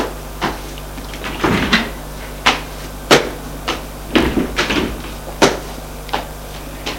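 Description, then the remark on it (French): A room door is opened and shut as two boys leave the room, a string of sharp clicks, latch rattles and wooden knocks, fairly loud over a steady low hum, with no one speaking. “Et Ils sortent de la chambre.”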